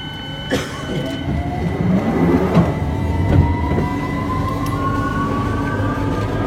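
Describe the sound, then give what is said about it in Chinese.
A London Underground (Tube) train rumbles steadily beneath the city, a dense low roar with rising whine tones and a few sharp metallic clanks near the start, no voices present. “老旧的管子在城下穿肠而过，颤颤巍巍，隆隆作响。”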